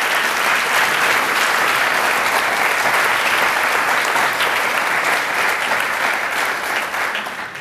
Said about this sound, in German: Und die haben vielleicht am Anfang erstmal einen kleinen Applaus verdient, einfach für die Tatsache, dass sie kandidieren.